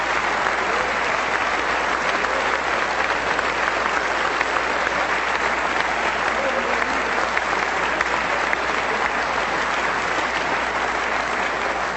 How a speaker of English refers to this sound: I'll tell them you stood and clapped and searched for them, but they...